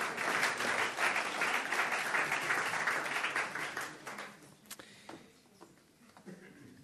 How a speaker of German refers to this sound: So, erstmal vielen Dank der Band. Ganz super macht sie das. Ja, können wir klatschen, genau.